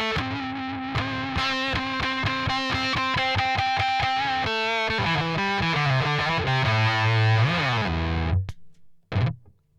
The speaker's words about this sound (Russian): помимо эффекта октавы, причем, как мне кажется, там не октава добавляется, а определенные гармонические искажения, октавообразные добавляются. Помимо этого ощущения добавляется ощущение, что как будто бы добавили тона.